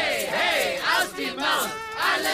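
A loud crowd of protesters at a rally in downtown Ninjago City shouts and cheers together, many overlapping voices rising into yells that swell and ebb in waves across a couple of seconds.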